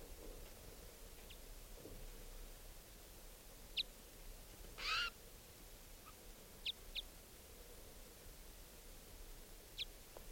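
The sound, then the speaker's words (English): A juvenile wild bird calls from up in the trees while a second bird has been caught in a net, in short, high, scattered chirps, with one longer, fuller call in the middle, over a steady hiss of background noise. No one speaks. “The other wild bird is still here, calling.”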